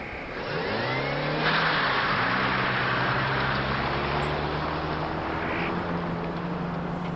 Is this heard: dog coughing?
no